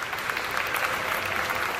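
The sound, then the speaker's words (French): A crowd applauds steadily, a dense crackle of many hands clapping at once, fairly loud and even throughout with no voices standing out. “Des applaudissements peuvent crépiter.”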